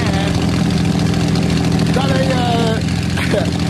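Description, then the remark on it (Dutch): A big Allison twelve-cylinder aircraft engine runs loud, its deep throbbing drone holding steady throughout, with a brief faint voice-like sound rising over it midway. “Dus een plaat die heel gevuld is met de geluiden van een Allison 12-cilinder motor.”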